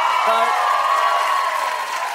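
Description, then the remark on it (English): A studio audience applauds steadily for a couple of seconds, a dense, even wash of clapping from many hands with a few voices mixed into the crowd noise. “I don't know if you all would be applauding if you knew what birthday it was.”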